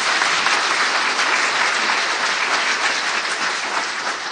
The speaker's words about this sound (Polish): Należą jej się brawa, tak oczywiście.